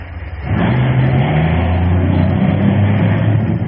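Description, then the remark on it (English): A car engine catches after a brief quiet moment and roars steadily, its low hum climbing in pitch as it revs and pulls away, heading to a Gulf station. The engine noise is loud and continuous, with no voices. “Let me in that car with you. Let's both get down to that Gulf Station fast.”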